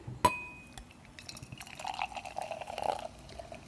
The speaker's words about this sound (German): Ja, jetzt. Ich gieße mal ein.